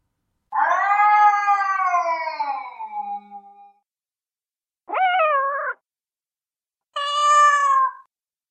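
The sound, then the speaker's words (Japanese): Three separate cat meows with no talking, from cats crowding around the Nekohana bookstore, on a yakitori shop roof, at the end of an alley and on the shop sign: a long, drawn-out descending yowl first, then two shorter, higher-pitched mews after brief pauses, all fairly loud and clearly harmonic. “猫花書店の周りは猫でいっぱいだった。”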